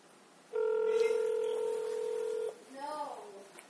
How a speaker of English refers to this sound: Where's my phone? There's my house phone. Let's dial me a taxi.